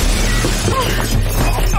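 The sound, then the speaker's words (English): Window glass shatters loudly as a brick is thrown through it, a dense crash of breaking and scattering shards that fills the moment, with a low rumble underneath and no voices. “They fall to the floor amid broken glass.”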